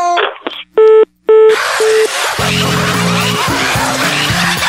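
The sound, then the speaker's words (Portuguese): A person redials a telephone: a quick series of short electronic dialing beeps, loud, gives way to a dense hiss of noise with faint steady tones running underneath. “Será que eu ligo de novo aqui na hora do moção?”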